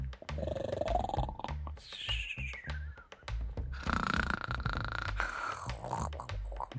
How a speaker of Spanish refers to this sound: Están roncando como leones.